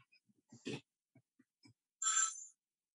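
A mobile phone ringtone chirps once in a brief, bright electronic burst lasting about half a second during a court hearing, preceded by a few faint clicks and a short rustle, with no talking.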